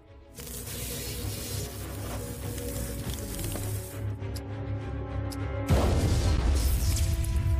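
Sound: huge explosion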